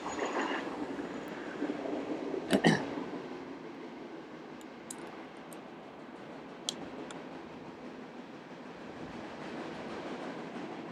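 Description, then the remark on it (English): A train rumbles past, a broad steady roar with sharp metallic clacks and squeals of wheels on rails, loudest early on and then holding as a continuous rolling drone. “Here comes the train, so we're going to wait till the train goes.”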